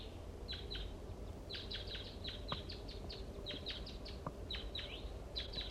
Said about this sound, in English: Recording a wild bird.